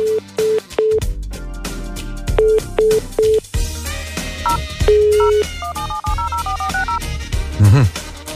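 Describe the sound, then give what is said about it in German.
Short electronic keypad beeps ring out in quick bursts as a telephone number is dialed from a studio, then give way to a denser mix of tones and music-like sound. “Mir hier im Studio hat man auch nur eine Telefonnummer gegeben und ich habe mir überlegt, wir rufen jetzt einfach mal hier aus dem Studio auf einer der Telefonnummern an.”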